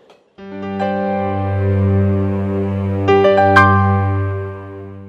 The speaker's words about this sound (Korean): 아, 예, 아버지. 전화를 하니까니 안 받는 걸 보면은 공부하다가 자나 봅니다.